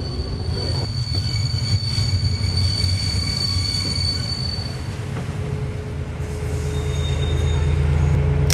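A passenger train rolls to a halt at a station, heard from on board: a loud, steady low rumble with thin, sustained brake squeals above it. No one speaks.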